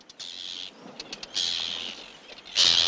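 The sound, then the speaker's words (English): Diving birds dive-bombing and sometimes pecking a person give harsh, high-pitched screeches in three drawn-out bursts as they bomb down, with quick clicking and clattering in between; the final screech is the loudest. No one speaks. “It's that sort of clicking, clattering sound, and then the screech as the bomb down.”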